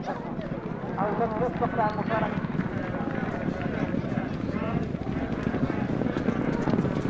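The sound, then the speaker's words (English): Racehorses gallop past at a horse race in Libya, with a rapid, continuous drumming of hooves on turf, steady, while voices murmur in the background throughout. “Libyans love horse racing”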